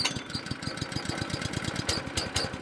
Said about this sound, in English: a fire manager for the Montana Department of Natural Resources and Conservation, fires up a heated pressure washer.